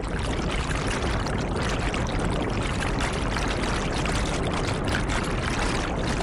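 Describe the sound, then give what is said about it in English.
A motorboat's steady low engine drone blends with a constant rush of churning water, loud and holding evenly throughout with no voices, as the engine boat arrives at Bakassi on the shores of the Atlantic Ocean, coming from Calabar with gallons of petrol. “engine boat has just arrived at Bakassi on the shores of the Atlantic Ocean.”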